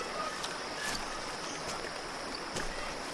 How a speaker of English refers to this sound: You walk along and follow the flow of the river deeper into the forest, where the shadows are darker and the water runs slower over the rocks and logs. Here, a babbling brook flows into the river.